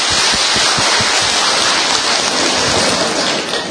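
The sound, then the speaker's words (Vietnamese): Loud, dense applause from a crowd, a steady wash of many hands clapping at once that holds at full strength throughout, with no voices over it. “Rồi, vỗ một tràng pháo tay thật to coi.”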